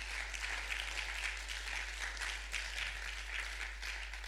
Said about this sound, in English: It's a good place to clap your hands properly together.